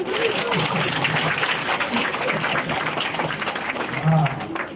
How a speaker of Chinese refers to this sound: 鼓掌。